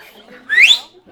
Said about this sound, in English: Who can whistle?